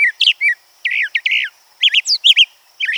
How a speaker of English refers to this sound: Some bird songs, like that of the scaly-breasted thrasher, are simple and repetitive. But its cousin, the brown thrasher, sings a much trickier tune.